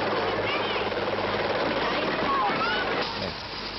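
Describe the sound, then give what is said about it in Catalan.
A helicopter's steady rotor drone from a Tulipán TV advert runs continuously beneath voices, fairly loud, as if played back through a television speaker, then eases slightly near the end. “El tulipan de l'helicòpter.”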